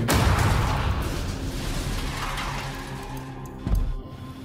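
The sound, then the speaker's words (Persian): Gunshots crack through a dense, roaring wash of noise during a car chase after a limousine, with scattered sharp reports and one louder blast near the end; no voices. “لعنتی منم زدن.”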